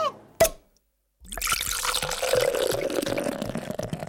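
A single sharp clink, a brief silence, then ice water pours steadily over rice topped with namerou and miso, making mizu-namasu at the Uomasa seafood restaurant in Kamogawa, Chiba, in a continuous splashing stream that lasts several seconds with no voices.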